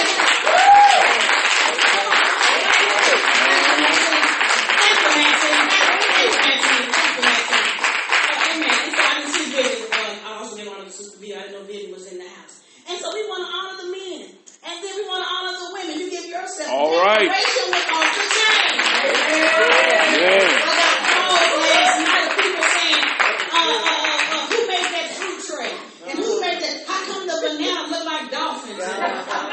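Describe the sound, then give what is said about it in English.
A crowd breaks into loud, sustained applause and cheering as the women applaud the men, dips briefly while voices call out, then swells again into another long, dense round of clapping. “We wanted to say, as women, we want to applaud the men.”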